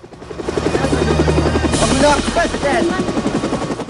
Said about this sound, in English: The helicopter flies overhead and swoops over the settlement.